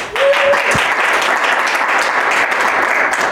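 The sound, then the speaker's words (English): Sustained applause from a large crowd fills the whole stretch, a dense, steady wash of many hands clapping at once, loud, with a brief whistle-like tone near the start. “Just hoping you guys will clap for a long time for me to catch my breath.”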